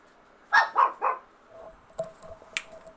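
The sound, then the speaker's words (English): A frustrated dog in its little pen barks three times in quick succession, loud, wanting to get out, followed by a few quieter clicks and rattles with no voices. “He's getting pushy. He's frustrated and wants to get out of his little pen.”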